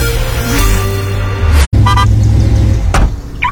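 A car engine runs with a steady, deep rumble, broken by a brief cutout midway, and a couple of short higher-pitched tones cut through near the end. No one speaks.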